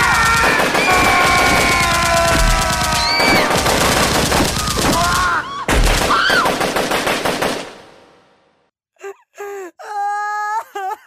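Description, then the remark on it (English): Loud, rapid popping crackles in a dense burst like automatic gunfire or firecrackers, layered with wailing tones, then it cuts off and a lone moaning wail continues. “Wait, what is that? Is that firecrackers?”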